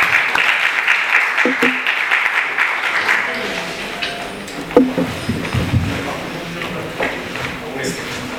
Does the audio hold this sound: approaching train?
no